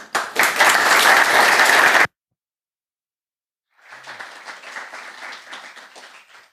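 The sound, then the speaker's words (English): An audience applauds the speakers after a talk, loudly in a dense wash of clapping that stops abruptly. After a couple of seconds of silence, a second, softer round of applause starts and continues steadily. “A warm applause for them again.”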